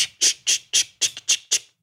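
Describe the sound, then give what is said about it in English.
A voice imitates sleigh bells with about seven short, bright, hissy bursts in a quick, steady rhythm, plus one small extra pulse partway through, with no talking alongside. “It's like impossible to do a sleigh bell sound with your mouth.”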